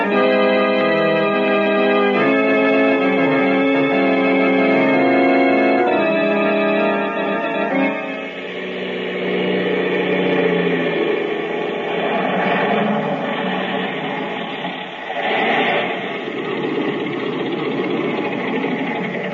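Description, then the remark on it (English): A small propeller plane with an automatic starter starts its engine with a steady, harmonic drone that steps up in pitch, then swells into a loud, rough roar as it throttles up to take off through an open door, with no voices. “Thank heaven this plane's got an automatic starter.”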